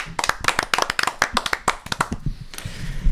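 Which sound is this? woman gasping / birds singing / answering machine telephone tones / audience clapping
audience clapping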